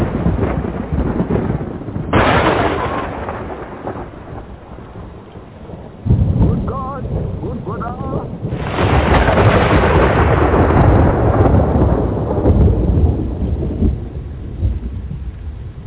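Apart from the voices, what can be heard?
rumbling thunder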